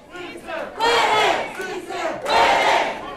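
rally crowd cheering

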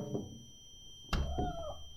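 cat pawing

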